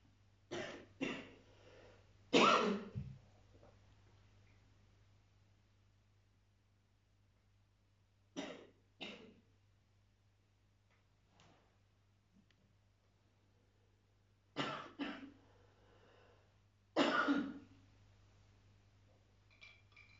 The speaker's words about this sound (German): Und schon reagiert er mit Husten und alles. Ja? Der begreift sofort.